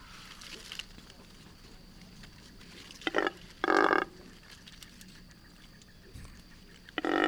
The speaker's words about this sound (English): Double-crested cormorant, also likely to be heard today in Vancouver. Let's give a listen to the double-crested cormorant.